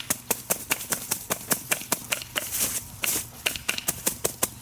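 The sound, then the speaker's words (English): A bundle of wheat stalks is beaten against concrete to thresh it, in a quick, steady rhythm of dry slaps, roughly four or five per second, with crisp rustling between hits, without voices. “I'm just basically beating it against concrete.”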